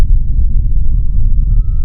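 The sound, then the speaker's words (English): Emergency vehicle sirens wail steadily as they pass by, the tone slowly rising and holding, heard over a loud low rumble of traffic or room noise. “We're reminded now with the sirens going by”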